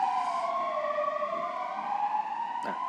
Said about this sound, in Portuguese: Este é um ponto que gostaria que nos pudesse estar aqui a passar uma ambulância.